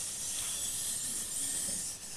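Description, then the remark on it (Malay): A snake's hiss, one long, steady, breathy stream of sound lasting a couple of seconds and fading slightly at the end, fairly loud with no voices over it. “Ular. Ular. Ini ular.”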